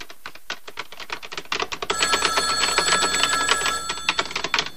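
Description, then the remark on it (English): A telephone rings in one sustained, fairly loud electronic burst over a steady patter of keyboard typing by a woman working at her computer, which starts alone and keeps clicking throughout. “If you're there, please pick up the phone.”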